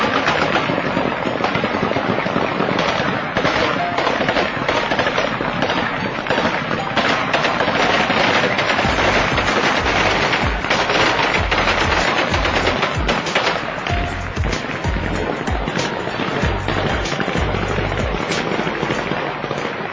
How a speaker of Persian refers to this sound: در شهر جلال آباد مرکز ولایت ننگرهار این پیروزی با فیرهای شادیانه هوایی همراه بود که برای مدت نیم ساعت فضای شهر را روشنی های مرمی تفنگ گرفته بود.